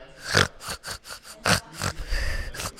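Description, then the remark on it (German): A voice imitates a sad, crying pig's snorting grunts and sobbing cries in a quick, uneven string of about seven bursts, moderately loud, ending in a drawn-out, wavering whimper. “Das Schwein war sehr traurig und weinte.”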